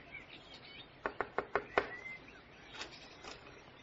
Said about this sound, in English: The gate was open, and seeing no one about, he made his way up to the front door of the shack and knocked.